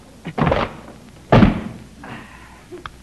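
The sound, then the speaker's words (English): A locked storeroom door being forced open: two heavy thuds of something ramming against it about a second apart, followed by a softer scraping rattle and a small final knock. “Here, this door leads to the storeroom. Locked, huh? Well, let's go to work.”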